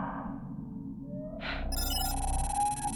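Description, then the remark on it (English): A bright electronic notification chime rings out partway through, a short burst followed by a sustained, shimmering tone over a steady low background hum. No one speaks. “Professor, I have just received a notification that Max Hunter's vital signs are weakening.”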